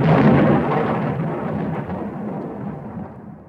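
A single heavy thunder strike sound effect erupts at full loudness, a dense low rumble that rolls on and slowly fades over a few seconds, with no voices.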